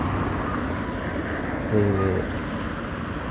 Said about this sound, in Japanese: まあこのね、後ろにすごい車の通る音がしてると思うんだけれど、まあそういうことですよ、歩いてるんですよ、今。